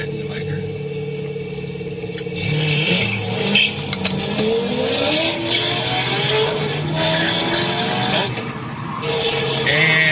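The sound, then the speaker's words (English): After a quieter idle at a traffic light, the engines of two Corvette sports cars, a C5 and a C6, roar to life, revving hard and accelerating with a rising, throaty pitch that stays loud, with a hint of tire squeal. “And here's a guy sitting at a light behind a C5 and a C6 vet with his little phone.”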